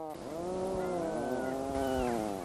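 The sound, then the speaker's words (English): A puffin at its breeding site gives one long, drawn-out groaning call, buzzy and rich in harmonics, its pitch wavering up and down for over two seconds. The call is loud and steady, with no talking. “That unmistakable call, used by pairs to signal to each other at their breeding sites and to communicate with their pufflings, yes, that really is the name given to baby puffins, is perhaps not the sound that one might expect a puffin to make.”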